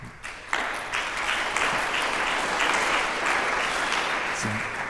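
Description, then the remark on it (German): An audience breaks into sustained applause, many hands clapping in a dense, steady wash that starts abruptly and holds at full strength throughout. “Richtig cool, schöne Statements, die ihr hier loslasst. Das Publikum belohnt euch auf jeden Fall.”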